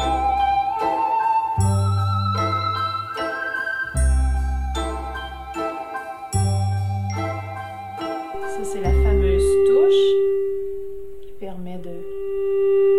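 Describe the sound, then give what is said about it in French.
An ondes Martenot sings a clear, gliding electronic melody over low, steady piano-like chords, then sustains a single long note with a gentle natural vibrato made by the player vibrating the keyboard, fairly loud. “Des nuances et mon clavier qui vibre. C'est vraiment un vibrato naturel.”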